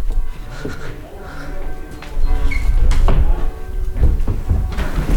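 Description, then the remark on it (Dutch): A town hall door opens and swings shut as a wedding party walks inside, with a few sharp clunks and latch clicks over a low, rumbling hum, and faint movement and shuffling around it. “Okay, nou dan lopen we verder door de deur naar binnen.”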